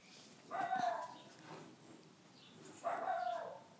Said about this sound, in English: That's next door neighbour's dog, I think.